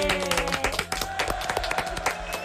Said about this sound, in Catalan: Fort aplaudiment.